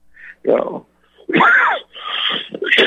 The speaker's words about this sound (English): And that's the corona cough.